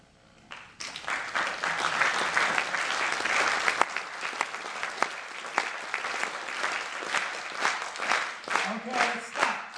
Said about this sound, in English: Every group I've ever tried that with over the years has been able to pull that off. And every group claps at a different rhythm. I did not show you at which rhythm to clap, and yet you figured it out.